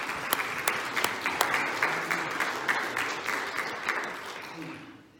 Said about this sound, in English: Would you give him a hand clap of praise as you sit?